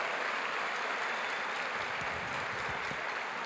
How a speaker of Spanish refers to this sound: Y ustedes tienen, yo quiero que le den un fuerte aplauso a todos sus líderes en ausencia, en presencia, por todo lo que han hecho y por su trabajo.